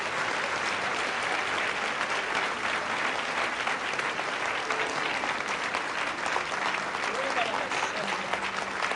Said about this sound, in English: Now give God a hand clap right there, because something has happened to you.